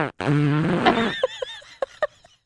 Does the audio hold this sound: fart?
yes